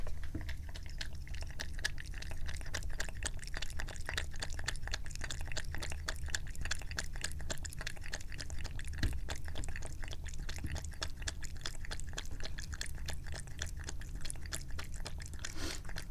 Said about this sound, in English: We get the jug of water. and we fill up the kitty bowl. Here you go. Drink it up. Oh, she's very interested. Yes, and now the sound of my cat drinking.